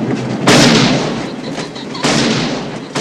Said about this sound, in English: Later, the contestants stand on a rolling freight car as pheasants take flight. The Englishman fires a pistol.